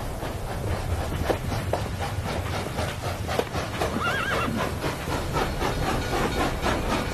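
A horse whinnies with a wavering, high neigh while hooves clip-clop steadily, over a constant hissing, steam-like background rumble. No one speaks.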